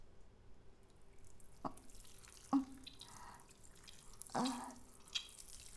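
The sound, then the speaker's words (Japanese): A few separate watery splashes and drips land at uneven intervals, fairly clear against a quiet background, with no one talking, simulating urination. “我慢してたおしっこ、思う存分お漏らししてください。私に向かってシーシーシーって。”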